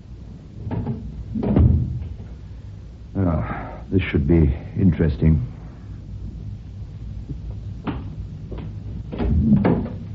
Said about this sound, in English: Let's close this bathroom door first.